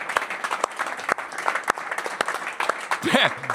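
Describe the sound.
A burst of hand applause from a small group, dense and steady with sharper individual claps standing out; a voice briefly calls out near the end.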